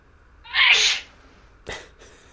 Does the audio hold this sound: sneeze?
yes